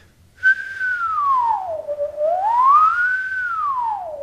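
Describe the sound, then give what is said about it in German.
A single sustained inhaled harmonica note, a whistled tone drawn inward and bent by changing the tongue position in the mouth, slides down in pitch, swoops back up, then bends lower again. It is steady, fairly loud and pure, with no talking. “Ich stelle mir dabei einen nach innen gezogenen Pfeifton vor, den ich tiefer bringe.”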